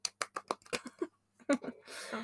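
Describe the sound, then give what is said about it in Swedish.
Brief applause of quick, sharp hand claps in an irregular rhythm for about a second, then a voice breaks in and a soft hiss of noise follows. “En applåd.”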